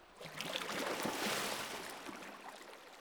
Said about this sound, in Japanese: お背中お流ししますから、こちらに来ていただけませんか？ありがとうございます。それではお湯かけますね。